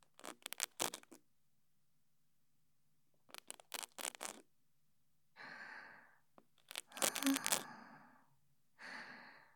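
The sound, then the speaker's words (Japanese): Crackly scratching of an ear pick inside an ear, now on the other side, comes in short clustered bursts, alternating with soft breathy exhalations in a quiet, intimate setting. “はい、それでは耳かきの方を失礼しますね。”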